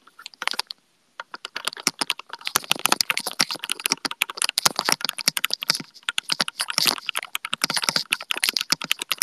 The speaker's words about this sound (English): It's very thocky, yes. Very thocky.Surprised you guys can hear it that much. I just really like to show off my keyboard.